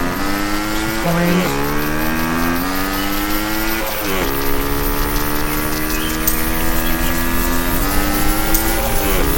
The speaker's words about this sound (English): So, let's turn to the left to avoid that car.